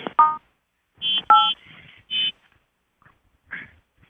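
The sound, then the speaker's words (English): A few short electronic telephone keypad tones beep at uneven intervals over a conference call phone line, with quiet pauses between them and no one talking. “I am going to turn off the entry signs.”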